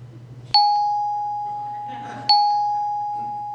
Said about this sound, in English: I did not hear the bell. Did it ring already?